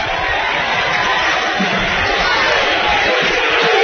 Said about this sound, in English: These Fleming County fans yell and stand up and complain after every single call. Every single call.